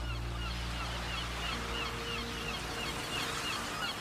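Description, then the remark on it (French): A white seagull with large wings calls repeatedly in a steady series of squawks, moderately loud, over a constant low rumbling drone like an idling boat engine. “C'est une superbe mouette, ce magnifique oiseau blanc aux grandes ailes qui vit près de la mer.”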